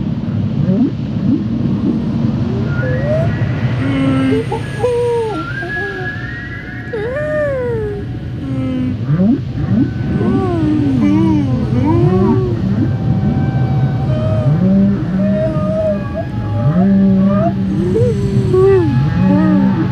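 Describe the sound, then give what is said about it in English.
Whale calls: many overlapping moans and rising, falling whistles echo continuously over a deep, steady underwater rumble, with no talking. “Let's listen to the whale sounds.”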